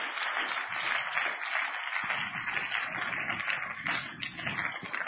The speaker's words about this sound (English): So ladies, every mother in this place, please stand. I want everybody to give an applause to every single mother. You guys work so hard every single day. You are amazing.